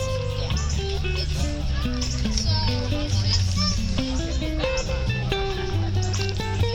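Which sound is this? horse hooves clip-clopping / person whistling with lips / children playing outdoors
children playing outdoors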